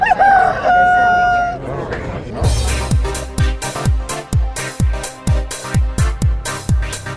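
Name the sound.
rooster crowing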